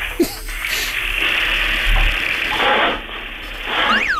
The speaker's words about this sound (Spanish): Ábrame un grifo. ¿Un grifo? Sí, porque es que... ¿El de la cocina? El de la cocina, por ejemplo.